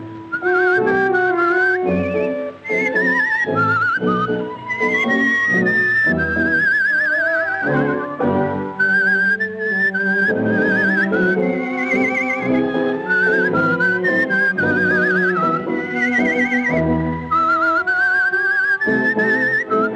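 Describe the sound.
A woman's high, warbling whistled trills imitate a nightingale in a tango, rippling in quick rapid-fire bursts and sustained wavering notes over a loud, continuous orchestral accompaniment.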